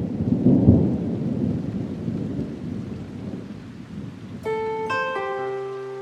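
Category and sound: nature, thunderstorm with heavy rain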